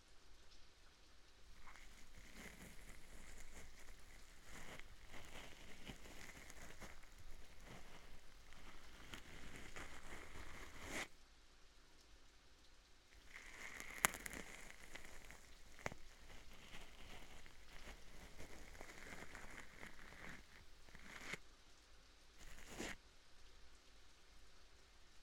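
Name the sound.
rain falling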